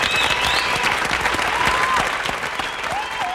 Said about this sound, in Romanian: Aplauze, vă rog, pentru Maria, sora lui Moise!